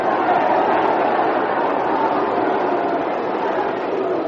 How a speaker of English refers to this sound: Well, some of the crowd here roaring its disapproval to call of that one.